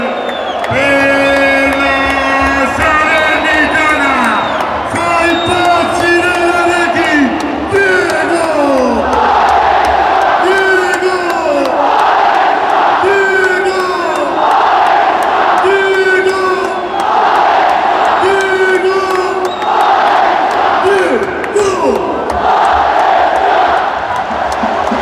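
Football fans in a stadium, right in front of the commentators, chant in a loud, steady rhythm, many voices rising and falling in sung phrases with repeated pulsing bursts of crowd noise throughout.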